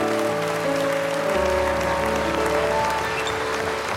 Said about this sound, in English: Would you thank God with a clap offering?